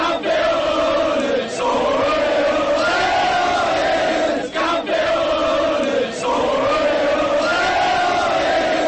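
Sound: football fans chanting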